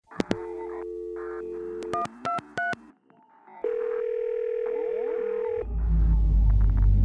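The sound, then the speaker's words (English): Telephone line sounds: a steady hum of dial tone, three quick keypad beeps, then another long sustained tone before a low rumble swells at the end. No voices. “The phone is ringing.”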